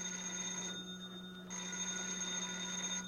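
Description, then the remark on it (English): A telephone bell rings with a brief pause before ringing again, a steady, fairly quiet ring heard on its own with no one speaking. “Yeah, I'll get the phone.”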